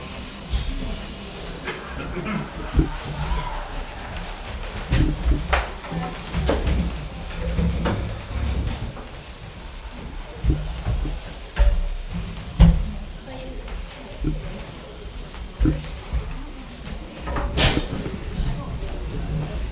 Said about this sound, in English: Now we have to stand up and push the chairs to the side because we're going to make a large circle.